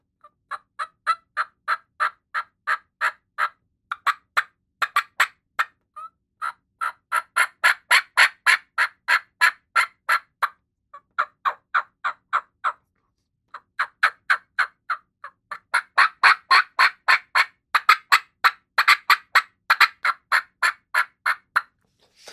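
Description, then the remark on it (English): A person freestyles imitated calls of a couple of turkey hens: a fast run of sharp clucks and cuts in several rhythmic bursts separated by short pauses, fairly loud with no talking. “some turkey hunters sound way better than a hen does”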